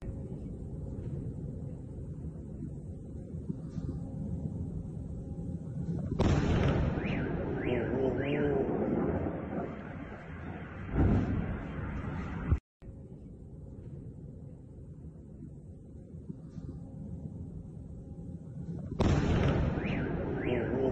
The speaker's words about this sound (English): So that one was pretty far away, but you guys heard that sucker. That was actually a pretty dang big explosion detonation.